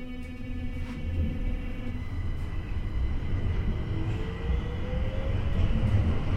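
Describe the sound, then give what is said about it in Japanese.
A Tokyo Metro Ginza Line subway train bound for Asakusa pulls away from the platform at Ginza station, its motor whine rising in pitch over a steady low rumble that builds gradually as it gathers speed. “発車いたします。”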